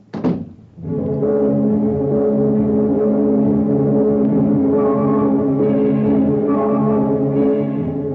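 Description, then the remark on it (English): A solid thunk like a car door closing, then a steady, droning engine hum at an even level as a car is taken out of a garage and driven to park in a nightclub parking lot on the outskirts of town, fairly loud. “You get the car out of the garage, you drive up and park in their parking lot.”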